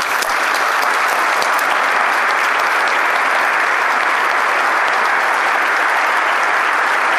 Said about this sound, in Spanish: Voy a pedir un fuerte aplauso.